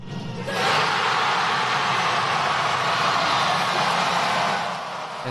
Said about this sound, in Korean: 네, 경기장에 함성 소리가 나오는데요. 미국이 이날 메건 라피노와 로스 라벨 선수가 후반전에서 터트린 골로 승리했습니다.